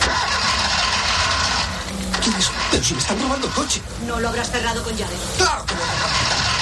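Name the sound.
car engine starting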